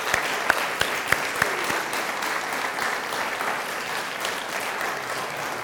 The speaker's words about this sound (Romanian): să mai arăți odată bisericii pe frumoasa voastră și să o aplaudăm.